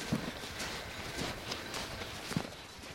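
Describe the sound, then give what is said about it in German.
Several soft, irregular footfalls crunch on the ground as a shepherd trudges away with his flock of sheep, with a steady outdoor hiss behind them and no one talking. “Der Hund Luke treibt einmal mehr die Herde zusammen und der Markus Neifeler stapft davon.”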